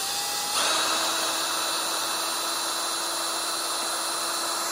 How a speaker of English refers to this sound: I placed a small drill, about an eighth of an inch, a little bit larger in the drill here. I'm going to use that to drill through where I've used a center punch.